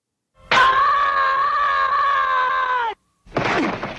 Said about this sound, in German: Das ist aus Peanuts. Das ist Charlie Brown. Org nennt sich das. Org. Org. Der Org-Schrei. Und hier ist der, hörte genau hin, wie er hier geloopt ist.